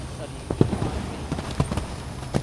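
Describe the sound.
Hoof thuds from the horse Twister during a show jumping demonstration land in an uneven rhythm, several moderately loud impacts spread across the moment, heard over a low rumbling background with faint voices.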